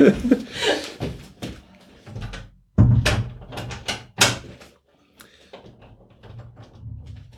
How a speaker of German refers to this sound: das war die Tür. Das war nochmal die Tür. Ja, Moment, ich wollte die Tür.